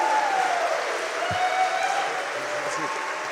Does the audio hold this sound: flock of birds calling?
no